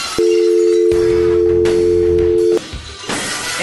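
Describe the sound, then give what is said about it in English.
A loud, steady telephone dial tone played on Sports Radio 92.9 The Game hums for about two and a half seconds, then cuts off abruptly, with some muffled rumbling and clatter underneath and after it. “We just firing off dial tones around here.”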